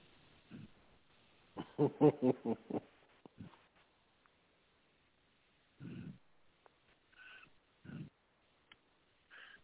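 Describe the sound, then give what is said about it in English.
A dog in a private room snorts and snuffles while being nosy, a quick run of rhythmic grunting sniffs followed by a few scattered, separate snorts in otherwise quiet surroundings. “damn, dog in the private room being nosy, ain't it?”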